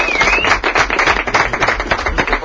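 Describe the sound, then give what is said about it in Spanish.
A crowd applauds steadily, a dense, continuous patter of many hands clapping at once, fairly loud, with a brief faint whistle near the start. “aplaudirle a Pepelu también, hombre, aplaudirle”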